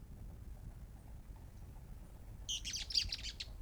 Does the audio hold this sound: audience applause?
no